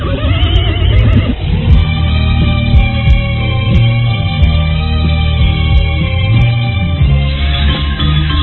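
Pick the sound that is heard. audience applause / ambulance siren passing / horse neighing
horse neighing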